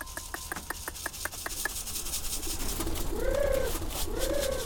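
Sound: pigeons cooing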